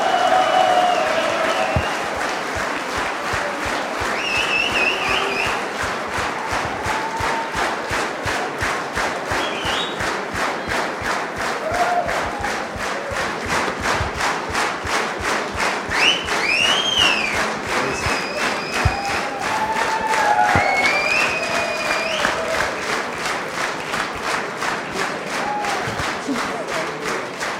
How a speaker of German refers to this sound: Ralf, das ist dein Beifall.